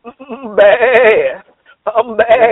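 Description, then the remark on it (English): A billy goat bleats loudly in a garage, two long quavering cries separated by a brief pause, the first drawn out and shaky, the second starting in stuttering bursts. “I just pulled back up in the driveway just now. I can hear him in the garage right now.”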